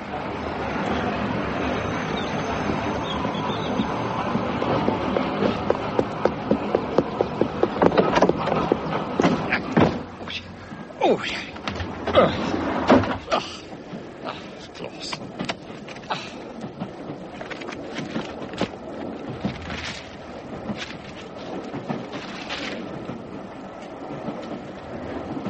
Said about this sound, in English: The 8:15 to Waterloo is just leaving platform 2.